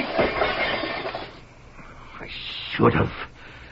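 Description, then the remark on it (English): The glass of French doors breaks: a loud, bright crash that rattles on for about a second, followed after a lull by two more sharp smashes of shattering panes. “What was that noise? The French doors. What happened to the French doors?”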